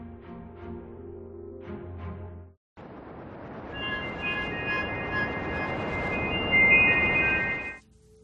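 subway train running

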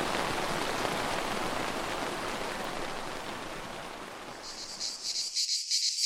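cicadas buzzing

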